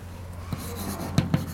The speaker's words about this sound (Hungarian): És itt egy definíciót fontos fölírni, ugyanis a lineáris hálózat fogalmával gyakran fogunk találkozni.